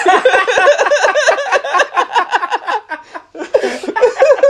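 A person vomiting: loud, strained, throaty heaves and gagging bursts in quick, uneven succession, with a brief break before a final harsher, gurgling round.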